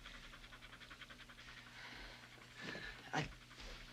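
A dog pants in a quick, steady rhythm of breathy huffs, then lets out a brief high whimper near the end before the panting resumes softly.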